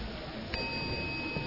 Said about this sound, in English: Oh, yes, a bell, a bell,